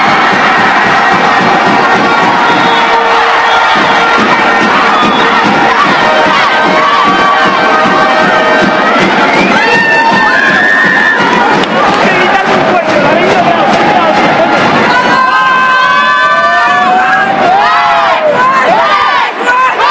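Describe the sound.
A loud crowd cheers and shouts celebrating the promotion of DSB Club Voleibol Sant Cugat, a volleyball club from Sant Cugat, with high excited voices, whistles and yelps rising over a constant roar of many people that never lets up.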